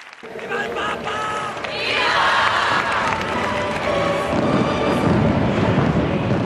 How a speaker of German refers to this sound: Feuerwerk und bengalische Lichter besiegeln die Worte Benedikts. Valencia ist berühmt für seine zündenden Lichtspiele, doch nur die Hälfte der Pilger konnte sie sehen.